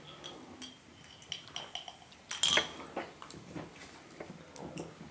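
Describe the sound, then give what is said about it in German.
Two drinks clink together once in a toast, a short bright ring, surrounded by soft scattered clatter and rustling of tableware. “So, Prost. Kampai! Kampai.”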